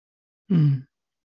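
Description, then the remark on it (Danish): A single short, voiced exhale, like a low grunt or sigh, as someone calmly settles into a chair, falling in pitch and then silence. “Men du kan sikkert høre min vejrtrækning, hvordan den ændrer sig lidt, og jeg finder stolen sådan stille og roligt.”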